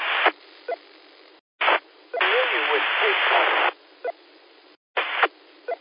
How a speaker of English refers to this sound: Probably interfering with you now. I could hear the other PTT button going off. A lot of white noise when you're trying to talk.